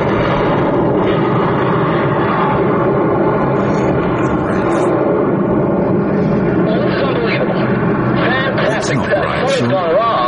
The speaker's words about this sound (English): Now, we're 5 miles from White Atlantis, and our chopper is pulling out real fast.